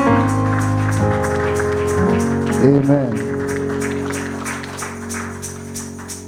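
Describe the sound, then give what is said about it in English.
An audience at a church service claps steadily for Jesus over sustained keyboard chords, the applause a continuous crackling wash lasting several seconds while a voice briefly speaks above it. “Come on, let's give Jesus a round of applause.”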